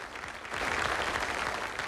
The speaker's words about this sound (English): As the band finishes, John's in the audience clapping.